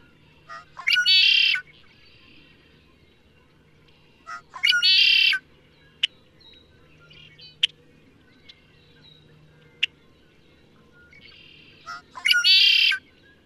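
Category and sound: bird, red-winged blackbird song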